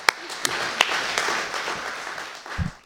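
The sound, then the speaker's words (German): An audience applauds steadily for a poet walking onto the stage, a dense wash of clapping with a few sharper individual claps standing out, sustained for a few seconds before thinning out. No one speaks. “Und wieder den Applaus halten, bis sie auf der Bühne angekommen ist.”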